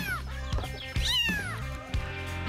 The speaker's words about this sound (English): Right behind him was a little kitten, just a stray kitten that had wandered up.